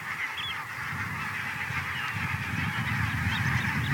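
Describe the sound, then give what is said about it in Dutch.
A large flock of geese flying up, all honking at once in a dense, continuous clamor, the overlapping calls steady and loud for the whole stretch with a low rumbling undertone. “Kan het als alle goersen opvliegen dat er de zeearend de boppen vliegt.”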